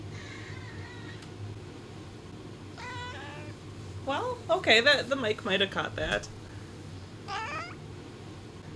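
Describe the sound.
A female cat, Callie, being picked up, lets out a string of loud, strained meows and yowls, several in quick succession, with a person speaking briefly in between and a low steady hum underneath.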